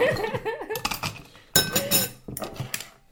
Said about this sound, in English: So I've basically mixed all that together and popped it in my cocktail shaker and really stick my ice in.